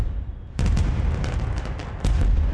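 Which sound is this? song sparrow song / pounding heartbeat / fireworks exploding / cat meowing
fireworks exploding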